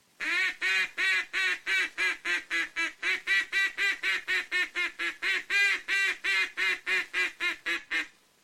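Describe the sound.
A duck call imitating two or three mallard hens on the water joining their calls, blown loud and high toward ducks: rapid nasal quacks in a steady, unbroken run of about two dozen, loud, with no pauses or voices.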